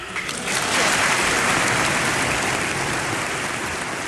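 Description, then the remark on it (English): Loud, sustained, rapturous applause from a large crowd in the US Congress after Mexican president Fox spoke to it in Spanish, a dense wash of clapping that swells quickly in the first half second and holds steady throughout, with no voices standing out. “Fox even spoke to Congress about it, in Spanish, to rapturous applause.”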